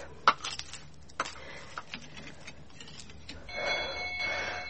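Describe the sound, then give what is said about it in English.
A few sharp knocks and clicks sound first, then a bell starts ringing steadily and loudly, its bright metallic tone sustained through the final second or so with no voices. “What a bell.”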